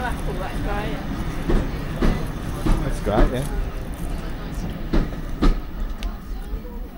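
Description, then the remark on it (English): A train rumbles past on its rails, steady low roar punctuated by sharp clacks at irregular intervals as the wheels cross joints, with people talking faintly underneath. “There goes a choo choo.”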